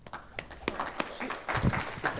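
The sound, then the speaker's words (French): Sparse, uneven clapping, a handful of soft hand claps spaced roughly a third of a second apart, with faint murmuring voices underneath. “Je pourrais applaudir plus nettement, mais c'est à cause de mon bras.”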